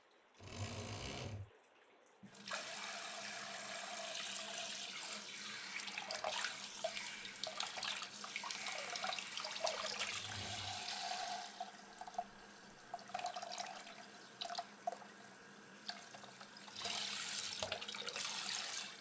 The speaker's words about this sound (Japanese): 髪の毛を濡らしますので、シャンプーケープをつけますね。ではシャワーを。